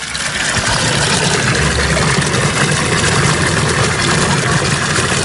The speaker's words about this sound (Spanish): ¿Será este sonido el de la fuente de la eterna juventud? Es el sonido del agua de la fuente de Asburgas en Orense